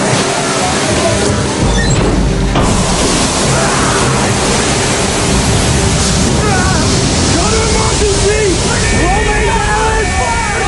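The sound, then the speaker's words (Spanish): A loud, continuous roar of water flooding in large amounts into the diesel engine room of a submarine, churning and crashing steadily throughout, with voices faintly audible beneath the torrent. “El agua entra en grandes cantidades en la sala de los motores diésel.”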